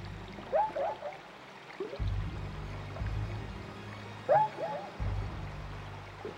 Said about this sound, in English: The rapidly moving current gathered even more force as we swept around a sharp bend in the river.